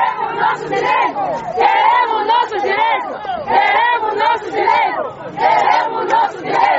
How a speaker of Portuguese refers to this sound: As senhoras lançavam gritos e palavras de ordem à porta da administração municipal.